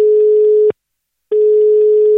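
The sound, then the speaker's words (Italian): A steady electronic ringing tone on an outgoing phone call to the Greek consulate, heard as two long beeps separated by a short pause, loud and clear with no one speaking. “Andiamo a sentire che ci dice il console se si becca il telefono”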